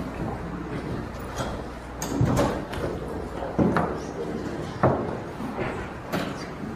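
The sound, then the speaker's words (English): Doors being opened after a group mindfulness session, with a few separate clunks and rattles spread over several seconds against a steady background murmur, with faint voices in the background. “I think we need the doors open again.”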